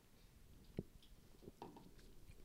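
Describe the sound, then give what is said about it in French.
A small sip of a drink: a soft clack near the start, then faint wet mouth and swallowing sounds amid quiet, with no talking. “Je vais prendre une petite gorgée.”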